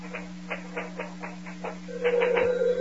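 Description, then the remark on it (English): A steady series of sharp mechanical clacks, then an old-fashioned telephone rings loudly near the end, its bell trilling over the tapping. No one speaks. “You go on with those letters. I'll answer this phone.”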